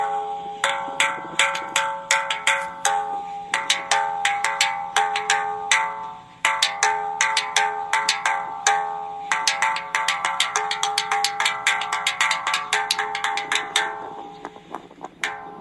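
A gong from the 1970s TV show Kung Fu, starring David Carradine, struck over and over in quick, uneven bursts, its bright metallic ringing sustaining beneath the clattering hits, loud, with a brief pause midway before the strikes resume.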